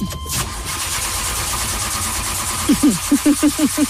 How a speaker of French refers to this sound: Je suis devant la fusée qui va décoller. Vous entendez les moteurs derrière moi.